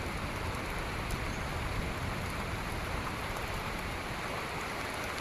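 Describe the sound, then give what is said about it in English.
Steady rain from a storm falls in a dense, even hiss across the whole stretch, fairly loud, with no gaps, pauses or voices breaking through the constant downpour. “Now we can just keep the rain away. No, it's coming back.”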